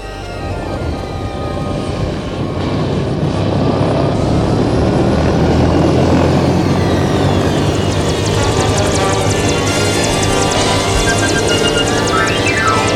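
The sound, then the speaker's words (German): A helicopter runs loud, its rotor producing a steady, dense thrum with rhythmic chopping that holds level throughout, with no voices over it. “Jetzt eilen sie wieder zum Hubschrauber.”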